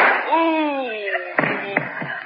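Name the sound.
gunshot sound effect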